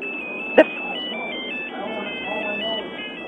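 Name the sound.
phone ringing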